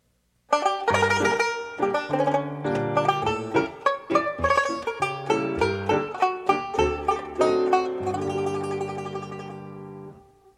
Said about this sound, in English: The cat by the banjo.